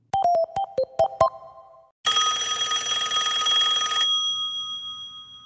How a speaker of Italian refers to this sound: Suona il telefono.